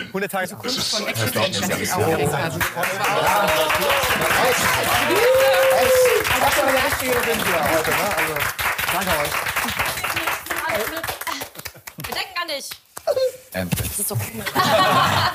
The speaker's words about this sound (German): Also, jetzt hör nochmal genau zu, was da passiert. Ja, wir starten mit dem Applaus für dich. Hör noch mal genau rein, ja?